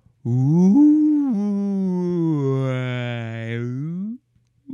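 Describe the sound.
A human voice imitates a whale with one long, loud, droning moan lasting about four seconds. The low pitch swoops up at the start, sags slowly, then lifts again before cutting off.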